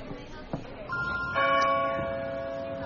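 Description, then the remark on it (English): Church bells ring out in two overlapping strikes, their bright tones sustaining and slowly fading, with faint background noise and murmuring beneath them. “Why do I hear church bells?”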